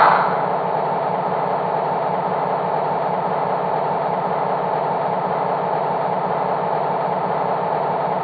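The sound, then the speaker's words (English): A diesel locomotive, Engine ET number 2, idles steadily while waiting for clearance to deliver a load of steel slabs to the Irving plant; its low rumbling drone and faint rhythmic throb hold constant throughout with no voices. “Engine ET number 2, stab it there. I'm waiting for clearance.”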